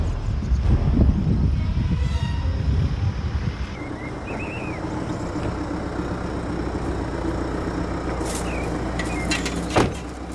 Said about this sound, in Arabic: أبوي هذه جرافة، ليش جابها هنا؟ جرافة ما أعرف يا ولدي.